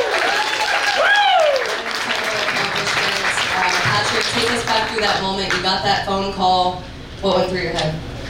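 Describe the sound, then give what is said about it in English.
Loud, sustained audience applause for a former NFL player's Hall of Fame induction lasts several seconds, with a sharp whistle early on and scattered cheering voices rising through the clapping. “Gotta give a round of applause for that.”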